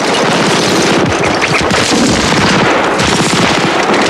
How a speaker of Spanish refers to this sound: Saltan disparando.